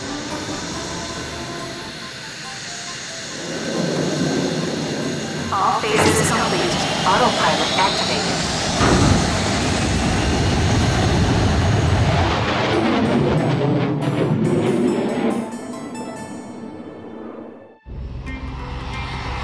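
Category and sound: vehicle, aircraft engines running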